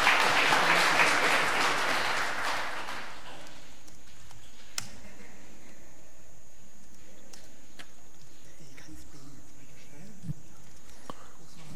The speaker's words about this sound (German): Ja, dafür auch einen Applaus.